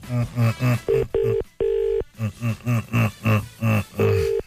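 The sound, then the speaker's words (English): A telephone line tone on a call to a bookshop: a steady run of short, buzzy tone bursts in quick rhythm, broken by a few longer, even beeps, all fairly loud with no talking over them. “Hey, it's ringing.”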